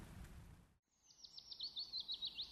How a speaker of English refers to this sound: Shale awoke to the cheery twitter of birds above and the buzzing of insects as they zipped past in search of late-season flowers.